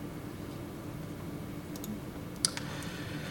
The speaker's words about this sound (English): And one of the things you might have noticed if you've been watching me type is that I've been typing sort of show and hide commands, but then I've been giving PyMOL a specific sort of selection on what to do with those commands.